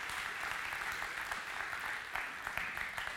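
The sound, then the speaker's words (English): Sustained applause from a crowd welcoming John Mack, the treasurer, to the stage, a dense, steady patter of many hands clapping at once with occasional sharper claps popping out, fairly loud throughout. “So can we give John Mack a huge round of applause as he comes to the stage here today?”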